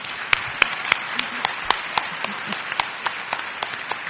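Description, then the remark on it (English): A small audience applauds the speakers of a panel steadily, sharp hand claps overlapping in a brisk, irregular patter with a few louder claps standing out, sustained for a few seconds. “Can we give a round of applause to the speakers?”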